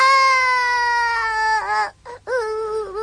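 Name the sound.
baby crying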